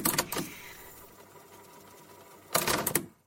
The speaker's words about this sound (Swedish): kan du lägga in ljudet när man sätter in ett band och sen när bandet börjar spela, när det börjar rulla. Alltså det är så kul.